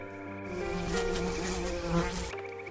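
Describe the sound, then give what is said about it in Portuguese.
A housefly buzzes for a couple of seconds, a steady droning whine with a slight wavering pitch, swelling briefly near the end before cutting off. “Tem que falar com a mosca.”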